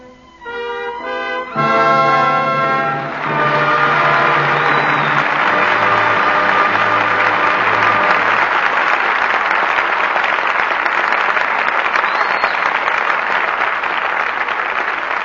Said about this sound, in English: But your applause for tonight's performance calls our stars back to the footlights.